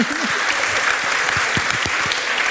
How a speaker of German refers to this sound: Ich auch, also ich, verhaltener Applaus.